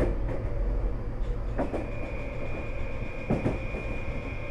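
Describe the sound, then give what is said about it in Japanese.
A commuter train that will wait at Saginuma for an express bound for Oshiage rolls along with a steady low rumble and a thin high whine, while a few sharp clacks from the rails break through now and then. No one speaks. “この電車は鷺沼で急行押上行きの待ち合わせをいたします。”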